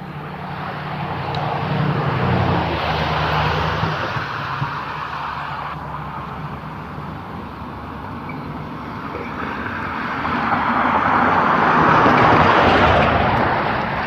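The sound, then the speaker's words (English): Steady roar of morning road traffic with tires hissing on pavement, rising as a vehicle sweeps past near the end, then easing off. No one speaks. “Traffic this morning.”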